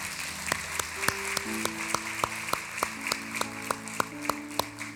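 Steady, rhythmic clapping from a crowd as a woman is called up to tell her story, sharp claps landing on an even beat over sustained musical tones, with no talking.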